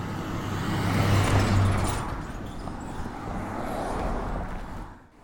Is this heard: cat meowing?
no